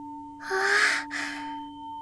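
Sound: crystal singing bowl ringing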